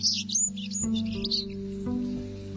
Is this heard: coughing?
no